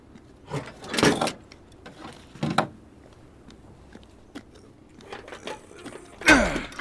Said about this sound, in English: There's a shipping door over here. Might be able to drive in after all. Does it open? It will. Just give me a second.